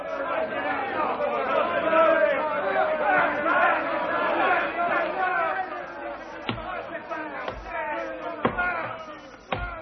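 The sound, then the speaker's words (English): An angry crowd of high executives gathered outside the Maida Vale studios clamours in a dense, overlapping babble of many voices, while a few sharp bangs like knocks or slams cut through during the final seconds. “It seems there's apparently an angry crowd of high executives gathered outside these Maida Vale studios, so let's go over and hear what's going on out there.”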